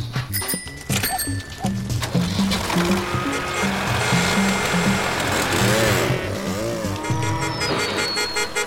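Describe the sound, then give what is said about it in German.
A moped and an old Lanz tractor on a farm rev up and drive off together to catch an escaped calf. Their chugging engines are loud, mixed with rattling and a few rising whines as they pull away. “Ich nehme das Mofa, Hanne, du den Lanz, ihr die Fahrräder.”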